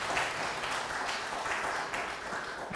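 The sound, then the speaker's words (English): A crowd applauds steadily, many hands clapping in a dense, even wash of sound that holds at a constant level for the whole stretch, with no voices standing out, as an audience applauds the worship team at a morning service. “Give another round of applause to our worship team this morning.”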